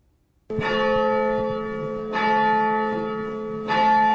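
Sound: abbey church bells ringing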